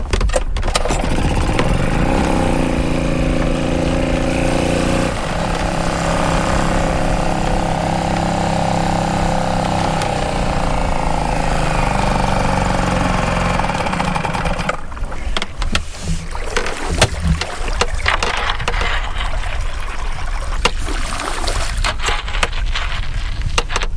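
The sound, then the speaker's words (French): A boat's motor cranks and catches after a couple of seconds, revving up and then settling into a loud, steady idle that turns rougher and noisier, mixed with wind and water, with an east wind blowing. “Excuse-moi, j'allume le moteur. Allez, moteur.”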